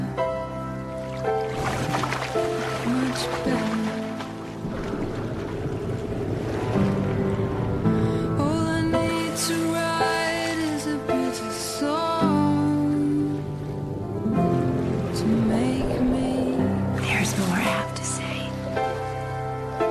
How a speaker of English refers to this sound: I mean, let's just hear it with the splashing to to really drive it home.